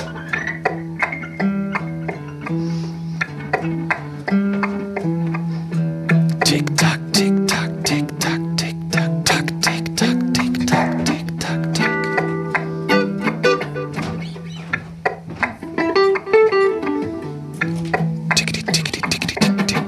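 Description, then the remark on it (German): A voice beatboxes a fast drum-and-bass groove imitating a ticking wall clock: rapid, steady clicks and snare-like bursts over a hummed bass line, loud for the full stretch. “Ach, mach eine schnelle Wanduhr. Okay. Hab nicht so viel Zeit. Eine Drum and Bass Wanduhr.”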